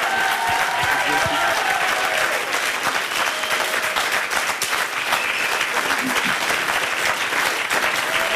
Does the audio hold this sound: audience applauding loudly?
yes